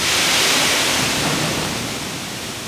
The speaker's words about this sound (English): A few times a month, a locomotive jumps onto a track that loops around WGM's giant grain bins. The train lurches forward every few minutes, filling each car with a waterfall of corn.